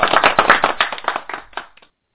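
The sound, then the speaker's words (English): A clapping sound effect played on At Home with Victoria to celebrate someone becoming an official member of the National Press Club: many quick overlapping hand claps in a steady flurry for nearly two seconds, then tapering off and cutting out abruptly. “I do feel like that we need to give you a clap now that you are an official member of the National Press Club.”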